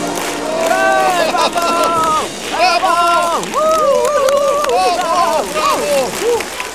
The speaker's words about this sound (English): The audience clap and cheer.